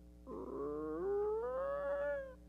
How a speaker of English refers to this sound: A door opens and a light shines in.